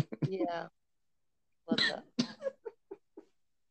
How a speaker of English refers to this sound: See, I'm coughing on this one, y'all. I'm sorry.